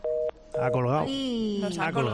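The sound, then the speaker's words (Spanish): A telephone line goes dead after the caller hangs up: a steady mid-pitched line tone sounds in two short beeps, then a voice starts talking over the line. “Nos han colgado.”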